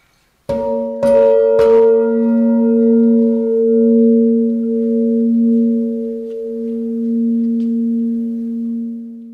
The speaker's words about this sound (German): Und wenn man möchte, darf man in dieser Ausstellung das Kunstwerk sogar anfassen. Man kann also das Material von Holz und Metall fühlen und darf diese Glocke auch schlagen.